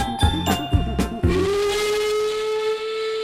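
A steam train lets out a few heavy chuffs, then a loud, sustained whistle blows steadily for a couple of seconds, with no voices.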